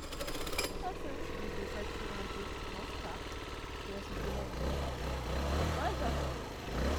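A motorcycle engine runs with a steady, throbbing mechanical rumble that deepens and grows louder in the second half, continuous throughout.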